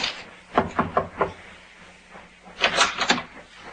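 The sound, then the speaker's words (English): A captain knocks on a cabin door: a quick series of four sharp raps, a pause, then a second louder set of knocks, with no voices. “Captain knocked.”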